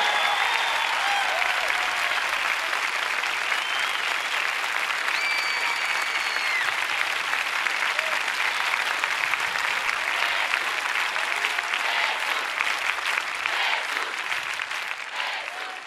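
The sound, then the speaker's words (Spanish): Sustained, dense applause from a large audience, asked to stand for the speaker's teacher and honor him as the true artist, a steady wash of clapping that stays loud for the whole stretch, with a few faint cheers and whistles mixed in. “Supera ese aplauso por 10-1 todavía.”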